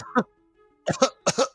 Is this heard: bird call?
no